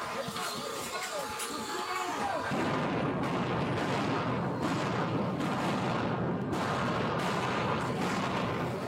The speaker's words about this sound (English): Those are flashbangs.